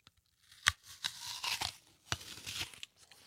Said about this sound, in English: Mmm. It drip. Crisp and juicy. Absolutely. Just what you want from an apple, in my opinion. This could not be better. a great apple.